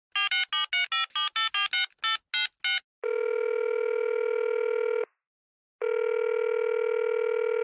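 A quick run of about ten dialing tones gives way to a steady, loud ringback tone that sounds for two seconds, pauses, then rings again, as an outgoing phone call connects.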